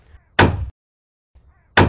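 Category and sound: tool, hammer thwack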